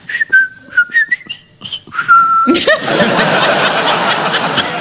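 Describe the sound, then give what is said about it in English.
A person whistles the Colonel Bogey march in short, bright notes, imitating a pub parrot that whistled it, ending on a long held note before breaking off into loud, sustained laughter. “My friend Guy Jenkin lived next to a pub that had a parrot that only whistled the theme to... there's a Colonel Bogey, but couldn't get the last note.”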